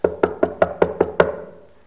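Seven quick, evenly spaced knocks rap on a wooden door as Peter knocks on it, each with a hollow resonant thud, and the last one rings out briefly into silence.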